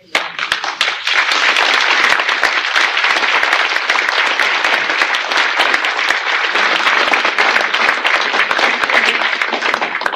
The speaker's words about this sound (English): Your applause goes to the Council of Trent. Thank you.